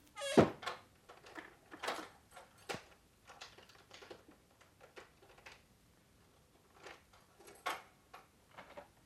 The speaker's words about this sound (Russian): На ключ запирают наружные двери.